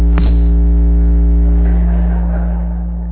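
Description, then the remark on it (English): A loud, steady electrical hum from a pacemaker, with layered buzzing overtones, drones continuously, starting with a brief click and tapering off slightly toward the end. No one speaks. “My pacer is humming.”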